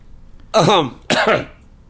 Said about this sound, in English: You all right? Yeah, I'm sorry. I coughed.